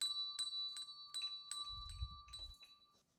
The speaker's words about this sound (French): C'est le matin à l'EREA. La cloche sonne.